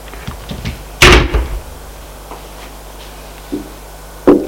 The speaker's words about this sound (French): Frappe à la porte du salon.